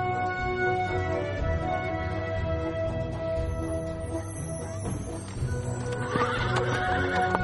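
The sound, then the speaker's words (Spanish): A horse whinnies with a strained, harmonic cry while its hooves clop steadily as it circles a woman in a procession. The sounds are loud and continue throughout without any talking. “Un caballo la rodea.”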